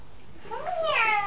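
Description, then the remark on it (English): A person imitates a cat with a single drawn-out meow, rising then falling in pitch, moderately loud, with no other talking. “meow, meow, meow. And what are you? The big cat and Tabitha Twitchit.”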